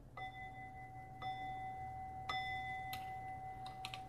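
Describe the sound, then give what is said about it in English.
A bell is struck three times at roughly one-second intervals, each strike leaving a clear, high, sustained ringing tone that hangs and overlaps, followed by a few soft clicks. “Oh, ring the bell.”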